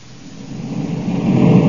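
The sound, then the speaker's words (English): A deep, roaring engine rumble swells steadily louder over a couple of seconds as Corey's spaceship comes in to land by a shack, with no voices present. “Corey's landing right where I figured he would.”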